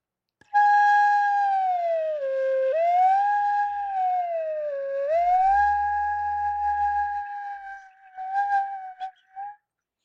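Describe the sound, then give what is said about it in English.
A flute head joint played alone as a head joint siren exercise, sliding up and down in smooth siren-like glissandos, a steady breathy whistling tone swooping in pitch, ending with a few short fluttering bursts. “But this is an example of what I refer to as head joint sirens.”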